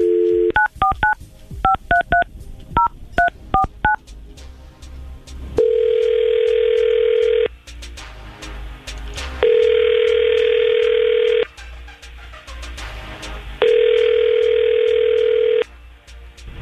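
A rapid series of touch-tone dialing beeps as a phone call is placed, followed by three long, steady ringback tones separated by pauses, with no voices.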